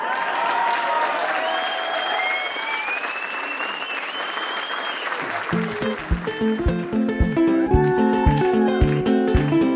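Steady audience applause, dense and loud, with a few whoops rising above it, fades as a rhythmic instrumental tune with a plucked, bouncing pattern starts partway through.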